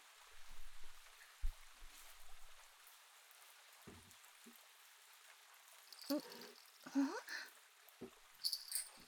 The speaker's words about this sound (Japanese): 雨か。さすがにセミたちもどこぞへ行っておるな。